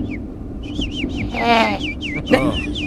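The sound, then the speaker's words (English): A bird that has got indoors through an open door chirps repeatedly, a string of quick swooping whistles broken by two louder, harsher calls, all over a steady low hum. “Oh, I think there's a bird that we got in here.”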